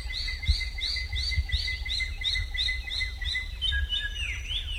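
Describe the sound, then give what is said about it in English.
A Wallacean drongo (sisisia) in Wallacea gives its sisisia call, a rapid, steady series of high, arching chirps repeated about a dozen times, with a low rumble underneath and no voices. “The drongo's sisisia call often comes just before troops of monkeys emerge from the forest to steal corn.”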